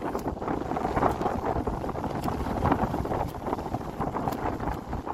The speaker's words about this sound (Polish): Zerwał się silny wiatr.